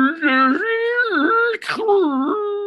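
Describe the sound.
A voice imitates the eerie sound of freezing lake ice: a steady, ghostly wail whose pitch swoops up and down, broken by a brief breathy gasp before the moaning tone resumes.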